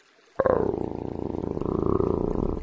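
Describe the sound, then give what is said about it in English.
A low, menacing growl from an enormous, lean, red-furred beast starts abruptly and rumbles on steadily for over two seconds, deep and gravelly with a rapid pulsing texture, loud and alone with no voices. “Then he heard a low, menacing growl behind him.”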